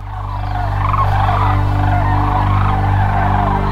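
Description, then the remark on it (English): A dense chorus of sandhill crane calls, rolling and trumpeting together without pause, loud, with a steady low hum running underneath. The cranes are returning to Hiwassee Refuge near Birchwood, Tennessee, during the Tennessee Sandhill Crane Festival. “Sandhill cranes are amazing birds, but they are an animal with a comeback story.”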